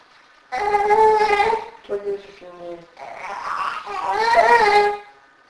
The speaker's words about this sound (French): Allez, ne pleure pas.